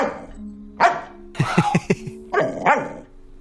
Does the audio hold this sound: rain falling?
no